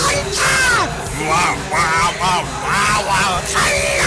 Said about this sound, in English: I'm not yelling! Another sign is excessive random yelling.